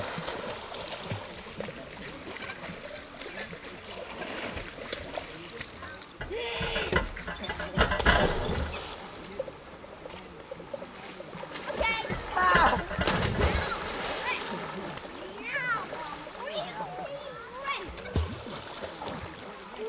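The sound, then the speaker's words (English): Irregular splashing and sloshing of water as a dog swims, with louder bursts of splashes now and then and voices talking over the watery churn. “Stay in the water. Swim around the water.”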